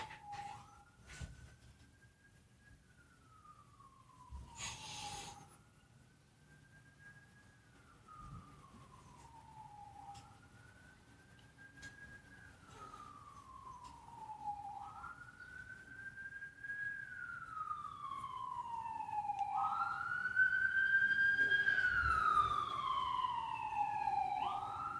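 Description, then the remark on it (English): An ambulance siren wails in slow rising-and-falling sweeps, growing steadily louder and fuller, with faint traffic rumble underneath and no one speaking. “Forgive me as we have an ambulance.”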